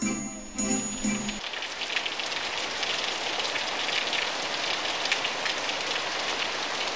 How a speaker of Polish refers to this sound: Chodzi wiosną deszcz po świecie, kropi kwiaty, kropi dzieci, delikatnie kropelkami, daje poznać, że jest z wami.